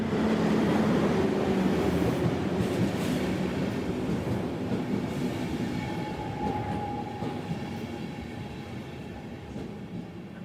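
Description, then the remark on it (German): A train rolls steadily along a mountain railway, descending at an even gradient through rock past the sheer Martinswand toward the Inn valley; a continuous loud rumble with faint rhythmic wheel clatter and a brief thin squeal, gradually easing slightly in volume, with no voices. “Die Strecke führt dann direkt durch den Fels und immer in einer gleichmäßigen Neigung hinunter durch die senkrechte Martinswand bis ins Inntal.”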